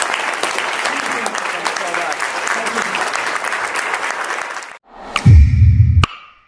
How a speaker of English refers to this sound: What a round of applause for Gary. Thank you guys so much.